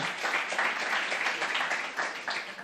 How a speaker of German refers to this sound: Ein Applaus für Zoe vom Zack.